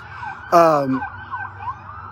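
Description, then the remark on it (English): An emergency vehicle siren wails steadily, its pitch rising and falling, with a short, loud horn-like blast breaking in near the start. “I'm going to talk louder than that party over there and louder than that siren, by God.”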